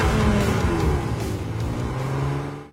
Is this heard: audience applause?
no